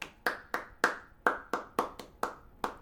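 Applause made of about ten sharp, separate hand claps at a loose, slightly uneven pace, each a crisp smack with a short ringing tail, with no voices.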